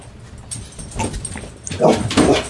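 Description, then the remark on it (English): A female dog whimpers after being yelled at, letting out a couple of short, strained whines toward the end over a low rustling background. “She ran away and was like, how dare you yell at me?”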